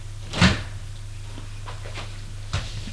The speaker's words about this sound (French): Pierre Max ouvre la porte du studio.